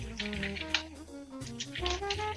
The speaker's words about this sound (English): Someone's typing.